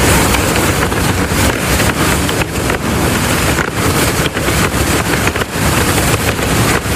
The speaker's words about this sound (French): Ouais, c'est le vent dans les voiles. Voilà, tout simplement.